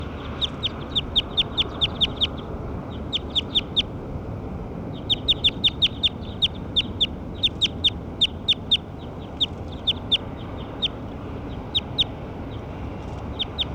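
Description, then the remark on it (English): Rapid series of short, high-pitched chirps, the calls of a recorded bird labelled bird 6, repeat in quick bursts, pausing briefly between runs, over a steady low rumbling background noise. “Those are the calls of bird 6.”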